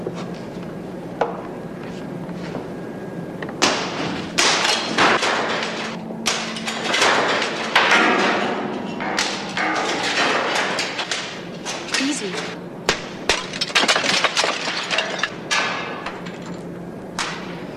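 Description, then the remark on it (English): Glass is struck and smashed again and again, sharp crashes and breaking pieces arriving in an uneven burst of blows, with muffled voices underneath. “Find me something to break this glass with.”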